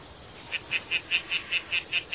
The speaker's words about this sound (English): Dude, it's just a tree frog.